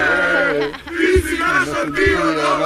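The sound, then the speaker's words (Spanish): A crowd of fans gathered at Belgrade airport chants for Djokovic in loud, rhythmic unison, their voices rising in sustained melodic shouts with a few sharp low thumps or claps cutting through the steady roar. “Oye, en el aeropuerto de Belgrado se han concentrado hoy unos señores a cantar a Djokovic.”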